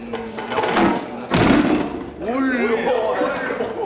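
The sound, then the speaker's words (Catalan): A boy sitting at a school desk balancing his chair on two legs tips over and falls backward, landing with one loud, sharp crash in the middle, between stretches of voices that carry on afterward. “Cau d'esquena.”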